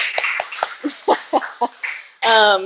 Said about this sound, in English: And let's just give the dads a round of applause. Yay, dads!